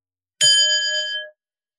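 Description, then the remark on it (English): A single bell is rung once during a Dharma teaching, ringing out with a bright, clear tone that lingers and fades away within about a second. No voices accompany it. “I'm going to ring a bell, but I'd like you to rest in the state as much as you can.”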